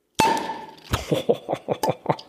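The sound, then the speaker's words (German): A cola bottle being opened: a sharp glassy clank with a brief ringing tone, then a quick run of about seven rhythmic clicks and taps, with no talking. “Wir haben noch die leckere Cola hier. Cola. Ja, sollen ja. wir die mal aufmachen hier?”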